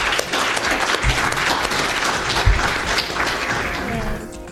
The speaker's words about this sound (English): And that is all. One more round of applause for our speakers, please.